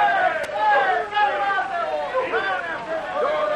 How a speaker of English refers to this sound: When he reappeared in front of the building with Boggs' friend in his arms, he was greeted by shouts and cheers.